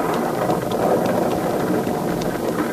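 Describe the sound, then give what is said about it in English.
Heavy thunderstorm rain with lightning pours down in a dense, unbroken hiss, loud and steady throughout, with a faint low rumble underneath and no voices. “Look at the lightning, Andy.”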